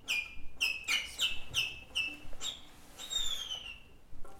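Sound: finch chirping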